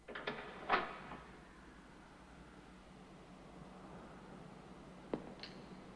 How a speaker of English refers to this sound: He glances round at the sound of a door opening.